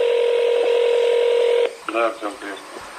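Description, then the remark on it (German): A steady, buzzing telephone tone on a call to an agent of Russia's domestic intelligence service holds for about a second and a half, then cuts off abruptly as a voice starts speaking over the line. “Sie und ihre Kollegen hatten am Morgen vor der Veröffentlichung des aufsehenerregenden Berichtes vorige Woche zeitgleich versucht, die Agenten des Inlandsgeheimdienstes telefonisch zu erreichen.”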